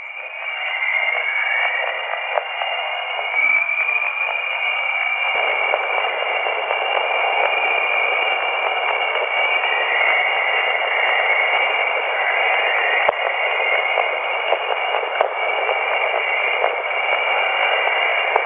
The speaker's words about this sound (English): Jupiter's a nice example of something that produces radio emission, which we can turn that radio emission into sound, and this is something called the Jovian chorus